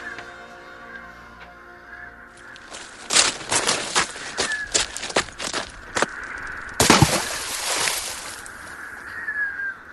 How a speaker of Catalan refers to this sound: Així que, com un llampec, arrenca a córrer cap al pont i es llença a l'aigua.